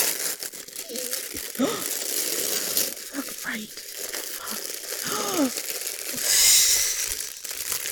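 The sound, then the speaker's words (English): Black tissue paper printed with stars crinkles and rustles steadily as a toy's box is unwrapped, with brief bursts of louder crumpling and a voice speaking intermittently underneath. “So the box has tissue paper like everybody does, but it's black with stars on it.”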